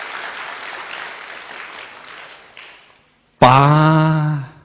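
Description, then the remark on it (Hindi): An audience applauds in a dense, steady patter for about three seconds, then the clapping fades away; after a short silence a loud sustained tonal voice or note begins. “पारस किसको मिला भाई, ये सारे बैठे हुए हैं इनको पारस मिला, तालियां भी नहीं बजा रहे, कमाल कर रहे हैं।”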